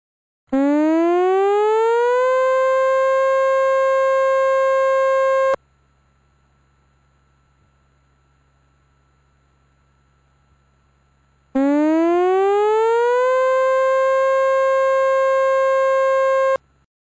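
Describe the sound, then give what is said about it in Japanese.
A loud tsunami warning siren, sounded as a tsunami warning is issued, rises in pitch and holds a steady, harmonic-rich wail for several seconds, falls silent, then sounds again in the same rising pattern. No voices are heard. “津波警報が発表されました。”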